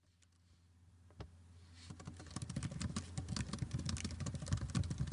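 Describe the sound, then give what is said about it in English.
Rapid typing on a computer keyboard, fairly quiet, building from a few scattered key clicks into a steady, dense clatter of keystrokes with no voices, as someone types up cover letters. “So for the past couple of months, this has been my background music. I've been typing up lots of cover letters, including this one.”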